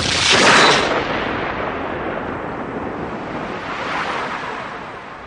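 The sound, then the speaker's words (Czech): A World War II artillery shell explodes as a man in Russia's Bryansk region saws into it: a loud burst at once, then a long, rough rumble of debris and noise that swells briefly again before fading. No voices are heard. “A vybuchl.”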